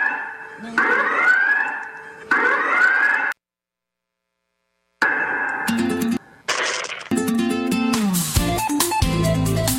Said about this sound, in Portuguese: Marquinho, bote aí a sirene.